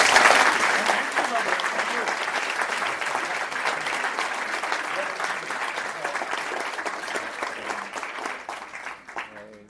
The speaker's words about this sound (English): So we are now going to watch this video, but please join me in giving a big round of applause.